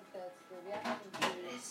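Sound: rummaging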